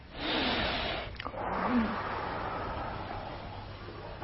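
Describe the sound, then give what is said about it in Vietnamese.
Airy breathing with no talking: a slow breath drawn in through the nose for about a second, a brief pause, then a long steady breath blown out through the mouth for several seconds, as a breathing exercise before sitting meditation. “Thì trước khi á, mình vào trong cái ngồi thiền á, thì mình hít thở 3 lần. Hít mũi, thở miệng ra.”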